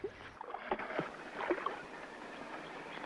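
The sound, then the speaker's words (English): Water sloshes and gurgles as a small boat stuck in a shallow river is shoved and scraped forward by a man struggling to push it, with several splashy pushes early on before settling into a steady watery wash. “The boat becomes stuck. Allnut struggles to push it forward, but to no avail.”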